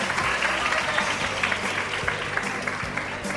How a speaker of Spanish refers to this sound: Un aplauso